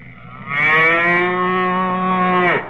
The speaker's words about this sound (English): Colonna, a cow? You're going to put a cow in our backfield?